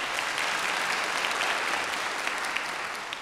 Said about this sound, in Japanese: たくさんの拍手ありがとうございました。